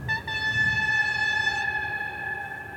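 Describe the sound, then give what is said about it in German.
A rail bus sounds a long, steady whistle with bright stacked tones, a brief stutter at the start, then rolls past with a low rumble underneath as the upper tones fade out. “An dem Sound ist es eigentlich schon erkennbar an der Pfeife, aber jetzt fährt er vorbei.”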